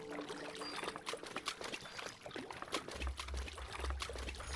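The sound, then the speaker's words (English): Water trickles and splashes steadily in an irregular, bubbly pattern, with a low rumbling hum joining in toward the end, played by a bug in the video game Extent as the player walks. No one speaks over it. “See? It's playing the water sounds.”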